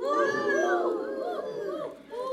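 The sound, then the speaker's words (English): A group of children's voices imitate an owl, their overlapping, sliding hoots rising and falling in pitch as a steady chorus for a couple of seconds. “Everybody make the sound an owl makes.”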